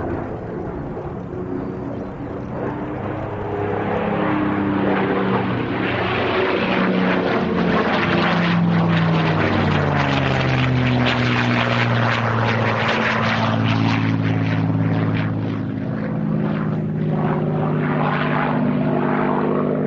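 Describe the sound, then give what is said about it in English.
A small two-seater propeller plane flies past, its droning engine swelling to a loud peak and shifting in pitch as it passes, then easing slightly, with no voices. “Now we have the mystery plane flying past again.”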